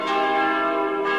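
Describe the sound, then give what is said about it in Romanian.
The church bells of the Brâncoveanu monastery ring loudly and steadily, their rich overlapping tones sustained and resonant throughout, with no voices present. “Am îndrăgit sunetul clopotelor mănăstirii Brâncoveanu, așa cum alții au îndrăgit sunetele clopotelor de la Putna.”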